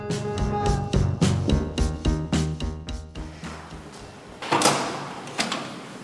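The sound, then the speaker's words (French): A few seconds of rhythmic, ringing tonal notes give way to a rough scraping slide and a single solid knock as the door of a painter's studio in Amiens is pulled shut, moderately loud. “Une fois que je referme la porte, en fait, je mets tous mes soucis à l'extérieur, tu vois.”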